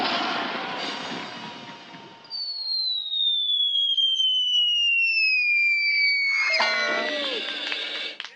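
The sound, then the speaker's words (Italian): A rushing burst gives way to a long, steadily falling whistle streaking through the air for several seconds, ending in a loud, clattering crash, as a human cannonball woman is launched across the sky of Bellinzona and lands on a huge cushion. “Dopo aver attraversato come una meteora il cielo della capitale, la donna cannone è atterrata come previsto sull'enorme cuscino.”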